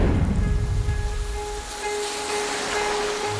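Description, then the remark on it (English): Steady rain pours down in a dense, continuous hiss with a low rumble beneath, while a few faint sustained tones hum in the background. No one speaks. “Perfectly rainy day to match the perfectly murky situation we find ourselves in.”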